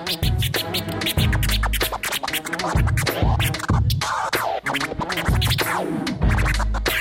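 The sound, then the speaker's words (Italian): Turntable scratching by a DJ during a live concert, over a pounding beat, with quick back-and-forth swipes cutting in rapid rhythmic bursts across a loud, steady drum pattern, no voices. “Senti come screccia, senti.”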